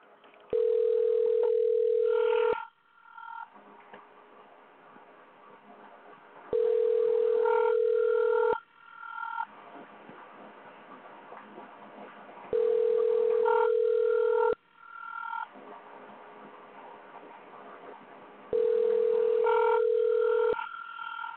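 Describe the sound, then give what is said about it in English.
Telephone ringback from an outgoing call: four loud, steady mid-pitched rings, each about two seconds long, separated by roughly four-second pauses, over a faint murmuring background. “Let's see if we can get Molly up on the phone with us.”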